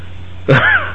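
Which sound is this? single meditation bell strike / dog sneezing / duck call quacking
dog sneezing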